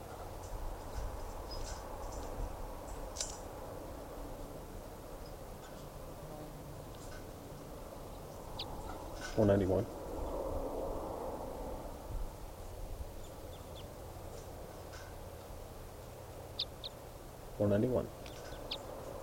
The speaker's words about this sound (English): Recording bird.